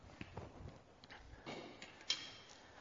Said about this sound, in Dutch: Ik zie dat die klok niet werkt, dus ik leg zelf een klein klokje op tafel.